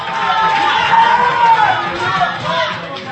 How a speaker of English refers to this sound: Just after 5 a.m., the election results from California arrived, sealing Barack Obama's victory, and the crowd burst into cheers. The long election night was over.